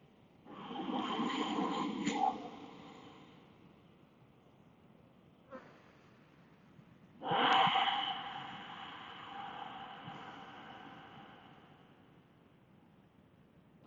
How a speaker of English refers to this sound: And we can begin with some beautiful deep ujjayi breath, pranic breathing.